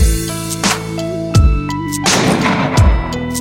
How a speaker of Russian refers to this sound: Второй выстрел принадлежал киллеру, который подстраховывал, если что вдруг пойдет не так. Он не промахнулся.